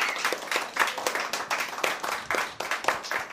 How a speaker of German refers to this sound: Ich finde das auch mal großen Applaus wert.